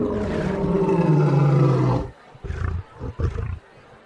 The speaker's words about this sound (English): And now, of course, the great Lafayette must be sacrificed to Prince the Lion. Now he's inched ever so slowly toward the lion cage. And as he gets close to the cage, right on cue, the lion roars.